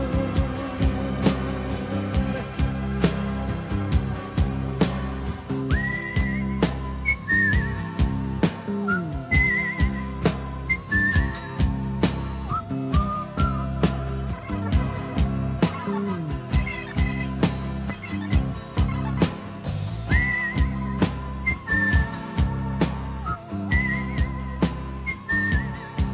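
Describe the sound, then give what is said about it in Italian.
A melodic whistled tune rides over a full band with steady drums and bass, the whistling clear and prominent as the song plays on to its close. “Per la serie, ecco, una delle canzoni che vorresti non finisse mai, anche con questo fischiettare finale,”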